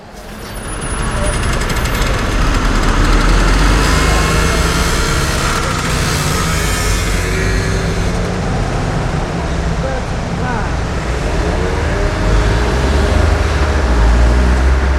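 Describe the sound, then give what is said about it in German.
Dense, continuous street traffic at a busy intersection, with engines droning and rising, a few revving motorcycles and what sounds like a tram passing, loud and close throughout with a brief hiss. “Also da hat man so ein paar Motorräder gehört. War vielleicht richtig so ein Zweitaktmotorrad, wahrscheinlich Straßenbahn.”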